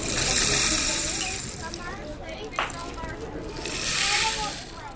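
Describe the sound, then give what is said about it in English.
A short rain stick is tipped, giving a steady hissing cascade of tiny pattering beads that swells loud at the start, eases off, then surges again before trailing away. “Some short rain sticks. Give you a sound for that.”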